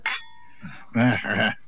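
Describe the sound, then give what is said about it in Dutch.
A bright, ringing clink of glasses in a toast at the start, its tone lingering briefly before voices speak in a short exchange afterward. “Ik schenk je nog eens in. Zo. Ja. Dank u, excellent. Proost”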